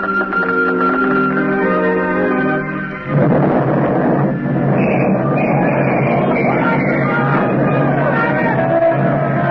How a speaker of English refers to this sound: Hello. Hello. Hello. Sentry post number 4 reporting. Explosion and fire. Explosion and fire in destroyer dry dock. Sag Island Shipyard. Sag Island Shipyard.